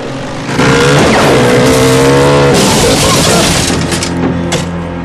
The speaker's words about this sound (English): Buster ducks slightly as the bullets fly and rides towards the cop. At the last moment, he jumps from the bike, which continues and crashes into Ransom, knocking him over.